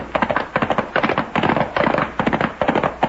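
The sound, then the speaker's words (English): A ragged volley of gunshots from a gang shooting at the Charlton house: about seven or eight sharp, loud cracks fired in quick, uneven succession, with no voices over them. “There's a whole gang down there pumping lead into the Charlton house.”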